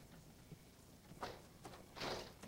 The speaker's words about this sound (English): scowls as she opens the front door.